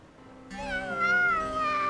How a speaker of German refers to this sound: Wie bitte? Das ist doch eine Katze. Ich wünsche mir doch keine Katze, ich wünsche mir einen Hund. Keine Katze.